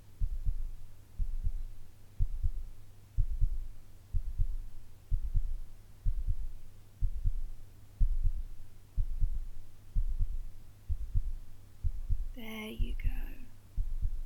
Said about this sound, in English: Just put your head on my chest, baby. There we go. Just listen to mummy's heartbeat.